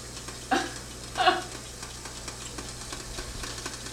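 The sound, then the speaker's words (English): Coffee bubbles as it brews, with two short gurgling, hissing bursts rising over a steady low hum, then a quieter simmering hiss that carries on without any talking. “He's getting all these noises. You're bubbling for the coffee.”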